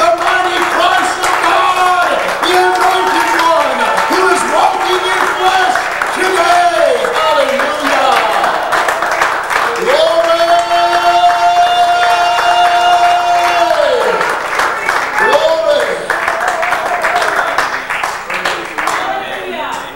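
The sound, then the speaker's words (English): A standing church audience applauds for Jesus, dense clapping mixed with cheers and shouted voices, while a sustained organ-like tone rises and falls underneath, staying loud for the full stretch before easing slightly at the end. “Well, stand to your feet and give Him applause.”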